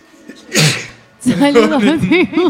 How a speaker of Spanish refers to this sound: Perdón. Es que yo estornudo de a dos veces. Tiene la diferencia de estornudar para otro lado del micrófono, aunque sea. Claro, lo dejaste todo. Estornudé dentro de la remera.